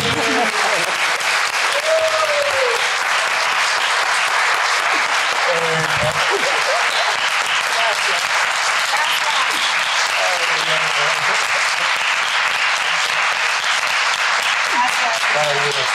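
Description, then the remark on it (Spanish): A sustained round of audience applause fills the whole stretch, dense and steady clapping from many hands, with a few faint voices and cheers mixed in underneath. “Le damos otro aplauso”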